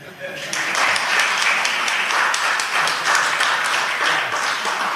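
A crowd bursts into sustained applause, many hands clapping steadily at a fairly loud, even level from just after the start to the end.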